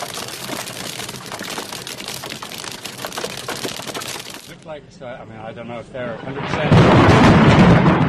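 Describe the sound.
Hail clatters down in a dense, rapid drumming, heard from a commentary booth at a cycling stage finish, then a voice speaks briefly before a sudden, loud, rumbling thunderclap booms during an interview with Chris Froome and keeps roaring to the end.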